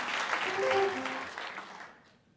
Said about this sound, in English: Oh, the bass player knocked over all his coffee. Come on, you got to applaud when someone does something like that.